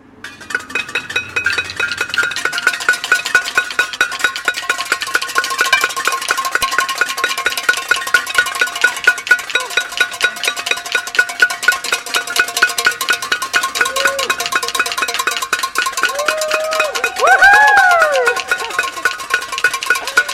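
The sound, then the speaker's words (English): A loud, continuous clatter of pots and pans being banged as the cyclist Bradley Woodruff arrives at the race finish, with rapid overlapping metallic clangs and ringing tones that keep up for the whole stretch; a brief rising whistle-like tone cuts through near the end. “Bradley Woodruff has just arrived to the sounds of pots and pans,”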